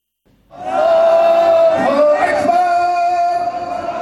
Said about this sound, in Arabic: هتافات تضامنية مع الفلسطينيين في شمال شرقي إيران تأكيدا على خيار المقاومة ضد العدوان الإسرائيلي في قطاع غزة، تظاهرة شارك فيها المئات من أهالي مدينة مشهد الإيرانية.